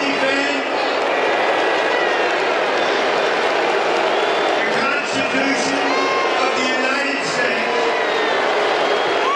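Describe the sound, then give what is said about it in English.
A huge stadium crowd at a Washington Commanders NFL game boos loudly and steadily during a military oath ceremony, low drawn-out jeers swelling and overlapping in a dense roar that never lets up for the whole stretch. “that's pretty loud booing at the Washington Commanders NFL game.”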